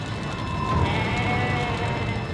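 Goats bleating in a steady, overlapping chorus, fairly loud, with no pauses and no talking over the animal calls.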